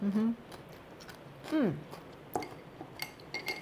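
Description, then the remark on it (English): Crisp crunching of someone chewing a raw, garlic-packed cabbage side salad with the cabbage cut into bite-sized sheets, a few sharp bites spaced out, with short hummed vocal sounds of enjoyment in between. “And particularly the way the cabbage is cut into these little bite-sized sheets rather than having it be shredded like in a coleslaw really amplifies that crunchy texture.”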